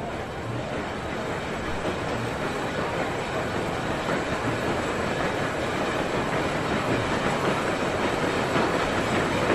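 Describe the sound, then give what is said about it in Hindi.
A metro train rumbles steadily along the rails as someone enters the metro, a loud, continuous roar with faint rhythmic clacks of the wheels running through it, with no one speaking. “इस वक्त मैं ऐसी पोजीशन में नहीं हूँ कि सिलसिले में आपसे गुफ्तगू कर सकूँ, मैं मेट्रो में दाखिल हो रही हूँ।”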